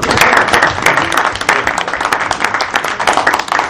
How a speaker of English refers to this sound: It's really that I think all of us owe a big round of applause to the man who's responsible for all this.